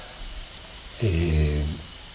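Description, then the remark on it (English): Crickets chirp in steady, repeating bursts throughout, fairly faint against a quiet backdrop in a very rural area of Galicia, recorded live, while a low, tonal droning sound swells briefly in the middle. “Crickets, birds, all kinds of birds, water running everywhere.”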